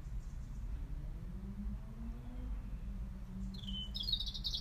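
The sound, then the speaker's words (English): A blackbird sings faintly in the distance, one short bright phrase arriving near the end over a steady low outdoor rumble, with no voices. “I wish that blackbird had just come a little bit nearer though.”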